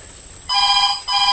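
A loud telephone rings in two bursts separated by a very short gap, a bright, steady electronic trill with no voices present.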